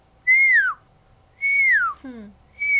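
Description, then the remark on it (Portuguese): A person imitates the call of puma (cougar) cubs with three high, thin whistles, each sliding downward in pitch, fairly loud. A brief lower descending squeak follows the second whistle. “De tão fininho que é o barulho. É um assobio, por exemplo. Você nunca diria que é uma onça, filhote de onça.”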